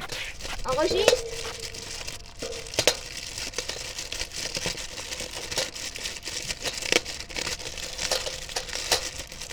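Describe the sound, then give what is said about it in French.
Dry leaves being moved rustle and crinkle continuously, with irregular crisp crackles and a few sharper snaps; a brief voice is faintly heard near the start. “Faut que tu bouges les feuilles.”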